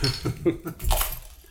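Glass bottles of summer ale beer knock together in a quick toast, a bright clink standing out after a few duller handling bumps, moderately loud with faint background murmur.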